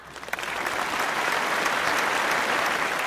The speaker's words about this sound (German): ich muss Applaus hier einfügen, so wie wenn jetzt TV-Totalmäßig oder so irgendwas. Applaus, kann ich näher vielleicht einbauen, gucken wir mal.